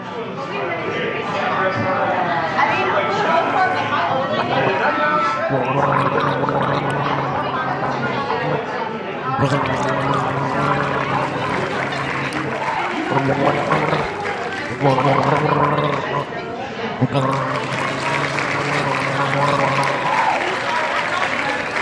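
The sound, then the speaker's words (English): A person gargles apple cider from a styrofoam cup loudly and steadily at the quarterfinals of the District 4 Gargling Championship while a crowd cheers and claps throughout, the noisy reaction swelling in bursts over the wet, bubbling gargle. “Oh, and that's a full gargle.”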